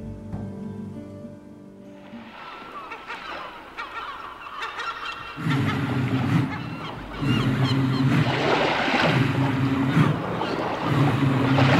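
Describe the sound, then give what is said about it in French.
Seagulls cry out repeatedly over a steady rushing wash of sea waves, the calls loud. A low droning tone joins partway through, and no one speaks. “C'est ça, vers au début, il y a le bruit de la mer, on entend les mouettes, tout ça.”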